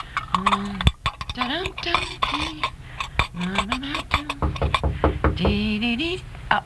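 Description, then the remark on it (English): Cooking dishes and pots clink and clatter repeatedly as they are cleaned up, with irregular knocks throughout, as a voice murmurs quietly underneath the washing-up noise. “I'll clean up some of the cooking dishes, I guess.”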